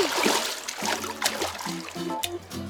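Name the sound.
water splashing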